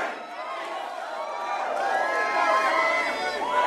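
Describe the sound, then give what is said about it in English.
A large crowd at a Bernie Sanders rally in Iowa roars and cheers as the TV screens freeze, a dense wash of many voices shouting at once that swells slightly louder and stays steady throughout. “The TV screens freeze and the crowd cheers.”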